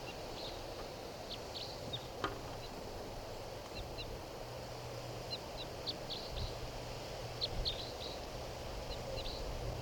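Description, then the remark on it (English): A wild red crossbill giving type 3 calls: short, high, dry chips repeated irregularly in small bursts, fairly faint over a steady low background rumble, with no voices. “I believe there's a wild cross bill around here somewhere. I'm not sure what call type.”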